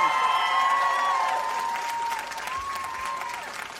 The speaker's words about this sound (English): I was just telling them to give you a round of applause because, you know, you're pretty close.